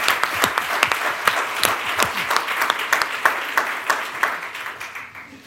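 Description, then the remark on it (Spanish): An audience bursts into applause for the sponsors HP, SolidQ, Plain Concepts, Cabel, PS and Microsoft, a dense, steady patter of many hands clapping at a brisk, even pace, holding strong for several seconds before starting to taper off. “Entonces, le tenemos que dar un fuerte aplauso a HP, SolidQ, Plain Concepts, Cabel, PS, Microsoft.”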